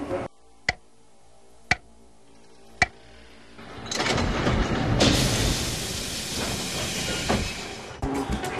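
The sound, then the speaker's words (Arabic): Three sharp, evenly spaced clicks sound in a quiet station, then a driverless, remotely controlled metro train starts moving at 2:37, its rushing hiss and rumble swelling loudly until the end. “نحن الآن يا جماعة الساعة 2:37 دقيقة، الآن يفترض سمو القطار يتحرك، وحسب المعلومات حنشوف بالضبط متى يفترض يجي القطار اللي بعده”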